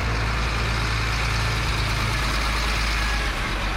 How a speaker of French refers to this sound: Gros camions de transport sur la frontière avec la RDC